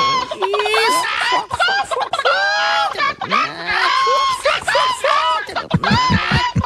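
A flock of chickens clucks and squawks loudly and continuously, their shrill, overlapping cries rising and falling in pitch without pause for several seconds.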